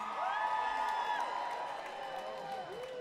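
An audience of mothers at Massey Hall, just after Mother's Day, screams and cheers in a sustained, high-pitched roar, with overlapping shrieks and whoops rising and falling over a steady wash of crowd noise.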